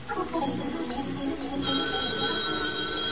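A telephone bell rings with a sustained, bright metallic trill that starts about halfway through and holds steady, following a brief stretch of muffled music, with a thin, old-radio tone.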